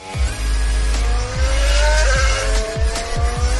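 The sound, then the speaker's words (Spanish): Loud, high-revving racing engines roar continuously on the race track at Cheste, Spain, with rising and falling pitch as the machines accelerate and shift gears in quick succession, without any talking. “Estos son Hamilton, Rossi y Hamilton en Cheste. Es una experiencia muy emocionante.”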